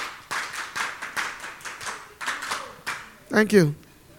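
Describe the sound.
A group claps in a steady, quick rhythm, about eight sharp beats in a row, then voices ring out together in a short, rising shout as the clapping ends.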